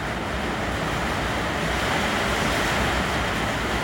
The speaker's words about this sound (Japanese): ちょっと雨がすごいですね。雨季に入って大体夕方から夜中にかけてあうるさい。